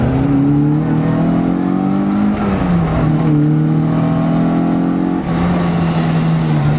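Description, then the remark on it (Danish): The engine of a 1968 Mini drones loudly and steadily from inside the car, its pitch rising and dipping with gear changes as it revs while being driven by a 78-year-old driver over changing gravel and asphalt surfaces, with no one speaking. “Og der fik jeg ikke starten af motoren med. Den er i hvert fald startet nu, fordi først så skulle jeg lige have sat mig ind i det her sæde.”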